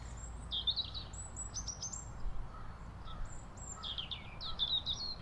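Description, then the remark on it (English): A bird calls repeatedly in quick bursts of high, clear chirping notes over a low steady background rumble with no one talking. “But where is the bird? Is it in a tree or on the ground?”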